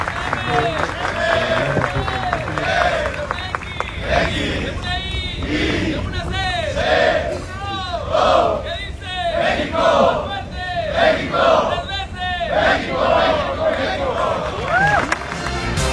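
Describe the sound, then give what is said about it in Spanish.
Mexican football team players, led by Jesús Gallardo, chant an improvised team cheer in unison, shouting "México, México", loud shouted syllables repeating in a steady beat, with whoops and scattered clapping mixed in. “Por su parte, Jesús Gallardo improvisó una porra en la que participaron todos los jugadores con el grito de México, México.”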